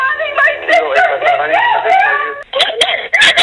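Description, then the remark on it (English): A woman screams frantically for help and for her address on a 911 call over a tinny, band-limited phone line, her voice high and strained throughout, with a brief catch before more desperate cries near the end. “managed to call 911 three more times, screaming for help and screaming for her address.”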